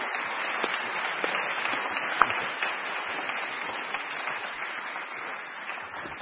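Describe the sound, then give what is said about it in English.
An audience applauds Professor McGrath at the end of his talk, steadily throughout, a dense, even wash of many hands clapping at once with no voices, holding a constant moderate level for the whole six seconds. “Let's give him a round of applause as we go.”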